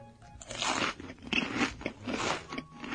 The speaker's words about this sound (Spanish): Como veis, para manera de masticar, está muy enfadado y se va a comer a este hombre. Cabrón, eso era una Play 3 de 60 gigas.